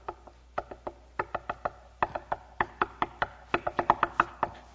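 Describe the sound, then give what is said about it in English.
A drummer plays a quick series of sharp, dry percussive hits that mimic knocking, around two dozen strikes in an uneven, bunching rhythm with no voices. “If you just keep knocking, a drummer just did an illustration that sounded funny.”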